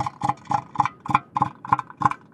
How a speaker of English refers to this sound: Imagine you're an elephant seal on the prowl for a harem of mates. You blurt out this sound.